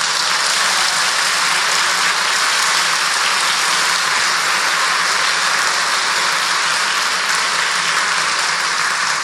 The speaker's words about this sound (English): I hope you are clapping for God, not me.